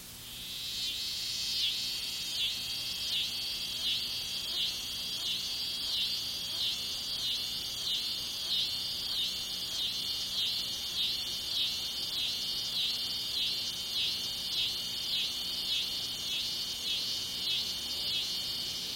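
A scissor grinder cicada (Tibicen pruinosa) sings loudly and steadily, a high, rasping buzz that pulses in a quick, even rhythm of repeated surges for the whole stretch, with no voices present.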